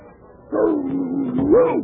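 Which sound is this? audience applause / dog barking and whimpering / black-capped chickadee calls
dog barking and whimpering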